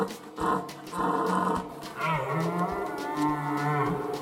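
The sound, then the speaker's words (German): A reindeer gives a series of low, grunting bellows, several harsh bursts followed by a longer drawn-out moaning call with a steady rough pitch, fairly loud with no talking. “Ja, so können Rentiere übrigens klingen.”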